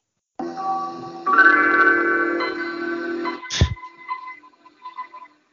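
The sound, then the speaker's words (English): The Windows 95 startup chime plays alone: layered synth chords swell in and build for a few seconds, then a bright shimmering strike rings out and fades into soft lingering tones. “Next, we have the Windows 95 chimes. So here is Windows 95.”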